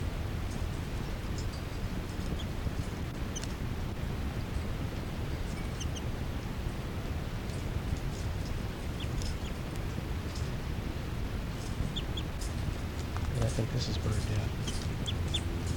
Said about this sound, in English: Also some responses there by one of the new juveniles. 3-3 there. And a begging call by the new juvenile female. 5-9 chitter. Kind of loud.